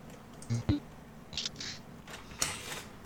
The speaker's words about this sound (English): I do not know why my printer is making noise, but I'm trying to mute to stop the damn thing. Stop it. Well, I'll just let it go.